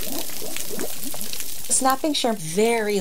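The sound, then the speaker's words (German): Dense underwater crackling from snapping (pistol) shrimp rapidly opening and closing their claws, each snap collapsing a tiny bubble in the water; a steady sizzle of tiny pops like bacon frying, with a voice coming in near the end. “Das Knallen von Krebsen. Es klingt wie brutzelnder Speck in der Pfanne.”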